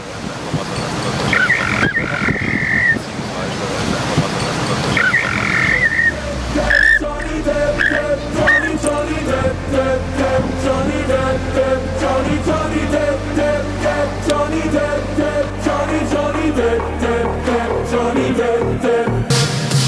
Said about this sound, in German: Wir lassen Sie mit einem Lied.